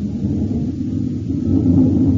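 jet fighter engine roaring

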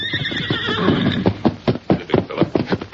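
horse approaching

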